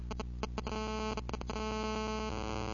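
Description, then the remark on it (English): A mobile phone set to vibrate buzzes on a surface from an incoming call, giving a steady, low, rattling buzz with a rapid pulsing rhythm and a few harsher bursts at the start. It runs continuously, with no talking. “Irene just called me. So, luckily, see, that was on vibrate so that I didn't get messed up there.”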